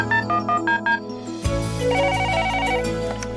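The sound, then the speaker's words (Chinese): A telephone rings before a call is answered on the radio phone-in program 'Xian Xin He Yi': a quick run of short, evenly spaced electronic tones for about a second and a half, then a louder, sustained melodic tone pattern takes over. No one speaks. “线连线，心连心，借电话交流，彼此守望祷告。”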